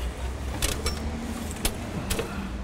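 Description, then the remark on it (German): A steady low hum of street traffic at a city bus stop in Utrecht, Netherlands, where people wait for the next bus, with a few sharp metallic clicks and knocks cutting through at irregular moments. “Während unter ihm Menschen auf den nächsten Bus warten, zupft er oben ganz vorsichtig Unkraut aus einem Hochbeet.”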